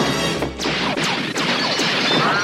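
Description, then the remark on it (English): A rapid string of about five loud gunshots from a pistol that Tackleberry fires into a room after opening its door, each a sharp crack with a brief ringing tail, spaced unevenly over a couple of seconds with no voices. “He opens the door and shoots into the room.”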